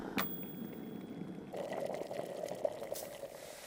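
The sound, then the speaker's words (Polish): Hot water pours steadily into a mug holding aluminium foil, silver, baking soda and a pinch of salt, to clean the silver; a continuous splashing stream whose pitch rises slightly as the cup fills, fairly quiet with no voices. “Czas na gorącą wodę.”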